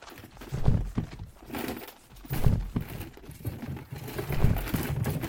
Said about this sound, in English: The bodies hit the dust in a gruesome thud, leaving nothing but their weapons in a bundle on the horse's back.